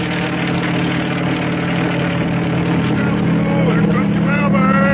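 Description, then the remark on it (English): A helicopter bringing mail from the United States, off Watling Island, with a steady, throbbing engine drone and a low mechanical hum, holding loud and even and swelling slightly louder toward the end as it approaches. “And that helicopter is bringing his mail from the United States.”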